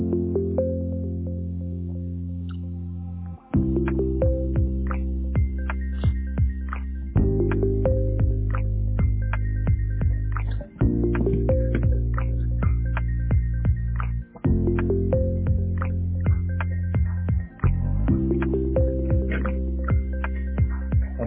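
A phone ringback plays as a looping tune of sustained chords that shift every few seconds, with light clicking beats over it. It sounds steady and moderately loud, with no one answering or speaking.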